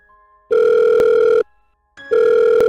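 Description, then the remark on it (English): A faint telephone dial tone gives way to loud, steady electronic ringing: two long buzzing rings separated by a short pause, the second cut off at the end. No voices. “After several phone calls with various personnel at the Berlin ground”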